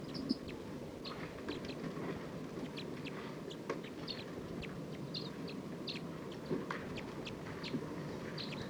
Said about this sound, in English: It's recording wild bird. This is a wild flock. Calling a lot more, looks like they're gonna take off. Stop. There are about 14 birds in this flock.